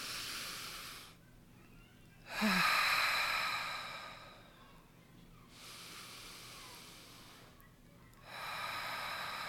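Slow, deep breaths drawn in during a guided relaxation exercise, each a long airy rush of noise separated by short quiet pauses, repeating in a calm, steady rhythm with no talking.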